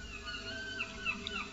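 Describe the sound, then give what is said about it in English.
Faint seagulls cry out a few times, short high calls rising over a steady wash of outdoor background noise, with no one talking, at the edge of the English Channel and the Atlantic. “Ooh, I hear some seagulls.”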